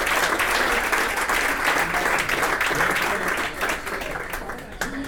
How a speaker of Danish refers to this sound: Det er alt for galt, når I klapper.